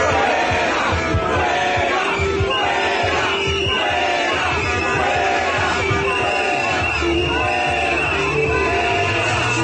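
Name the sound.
protesters chanting slogans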